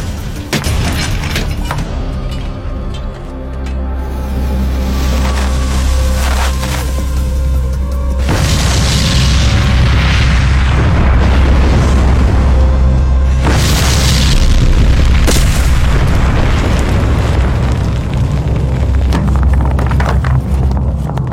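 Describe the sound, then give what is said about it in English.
A deep, heavy gunpowder blast booms through a railroad tunnel dug from both ends, the final blast joining the two tunnels, followed by a long, rumbling roar of rock and debris that swells again midway and stays loud, with no voices. “Just a final blast of gunpowder, and the two tunnels will be one.”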